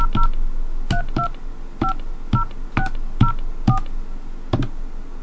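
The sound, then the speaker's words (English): A rapid series of touch-tone beeps as a phone card number is dialed, about ten short dual-tone presses in an uneven rhythm, clear with faint background hiss and no talking. “Okay, so we're calling the Old School Freak phone card.”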